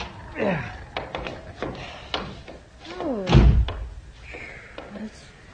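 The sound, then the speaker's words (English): A wooden door is opened and then shut with one loud, low thud partway through, in freezing cold weather, while voices talk before and after it. “Oh, for heaven's sake, try the door.”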